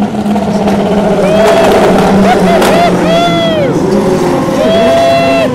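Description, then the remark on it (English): A Cadillac hypercar's race car engine roars loudly, its pitch climbing and dropping through several revs and gear shifts, over a steady wash of background crowd and track noise, with voices murmuring beneath. “I have to say, I think the Cadillac is one of the most beautiful hypercars. It's low and flat. Listen to that.”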